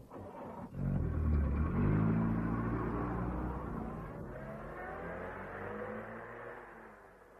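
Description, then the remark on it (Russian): A car engine starts up loudly with a deep rumble, then revs and pulls away, its whine rising in pitch as the sound gradually fades. “А этого давайте скорее в машину.”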